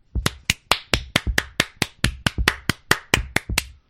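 A steady, sarcastic-sounding hand clap: around eighteen sharp, crisp claps in an even rhythm, fairly loud and with no voices, trailing off slightly at the end.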